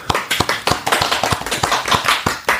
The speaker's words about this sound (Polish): Jakby brawa od publiczności.